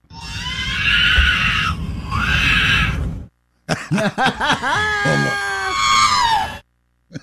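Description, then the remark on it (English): A baby cries and wails in two long, strained bursts, then after a short pause lets out high, warbling squeals and chirps that rise and fall like a beeping robot. No one talks. “Crying and wailing like R2-D2? Yes.”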